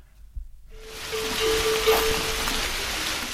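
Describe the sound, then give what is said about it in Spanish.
Steady murmuring water fills the night scene at a livestock fold in the Picos de Europa with a broad, even rush. A faint, sustained metallic ringing of cattle bells hums beneath it for a couple of seconds. “Es de noche, rumor de agua, cencerros de ganado.”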